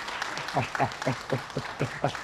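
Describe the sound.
An audience applauds in a steady, rhythmic clatter of clapping at moderate loudness, with voices calling out through it for a couple of seconds.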